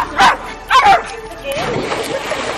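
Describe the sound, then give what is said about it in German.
A dog barks twice in quick succession, loud, followed by a quieter stretch of low, muffled sound with faint voices in the background. “Und ich sag mal so, sogar mein Hund mag's hier.”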